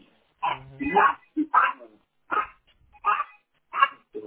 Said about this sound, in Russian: Собаки задолбали